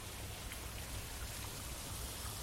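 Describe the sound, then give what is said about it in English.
Steady, continuous rush of flowing water, a dense hiss with a low rumble underneath and no pauses, with no voices, in a forest of huge indigenous ferns and big trees in Sydney. “Oh, listen to the sound of that water.”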